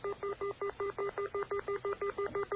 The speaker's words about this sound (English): Want to hear a phone being dialed? See if this. Okay, those are the pits, they call it, on a dial telephone.